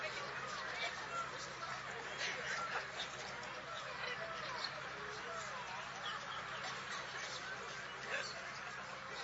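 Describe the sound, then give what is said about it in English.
Many voices at once imitate chattering parrots, a dense, continuous squawking babble of overlapping high-pitched calls lasting throughout, fairly loud and busy with no pauses. “The chatter of the parrots.”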